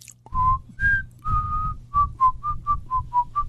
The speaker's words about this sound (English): she started whistling her favorite song, which happens to be the Bach Little Fugue at the moment